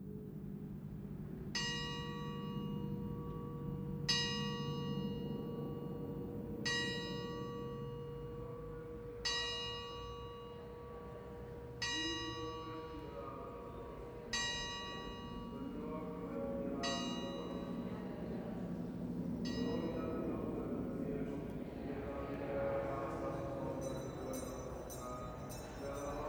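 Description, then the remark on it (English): A bell rings in slow, evenly spaced strikes, about eight of them, each ringing out and fading, over a low rumbling background, with a brighter jangling of bells toward the end. “A fleshless hand comes towards you with a bell.”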